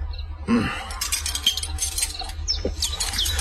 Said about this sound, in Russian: Как приятно сидеть одному за большим круглым столом, прислушиваться к птичьему щебету за окном, да кудахтанью кур.